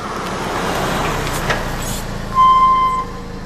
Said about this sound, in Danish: Skærer væk, og så kører bilen ind i garagen og får lukket porten bag jer.